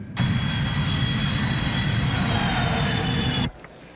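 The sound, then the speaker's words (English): A steady, loud airplane engine drone fills the cabin of a plane shortly due to land in Adelaide, South Australia, with a constant low rumble and a thin high whine, running evenly for about three seconds before cutting away abruptly. “We will shortly be landing in Adelaide, South Australia.”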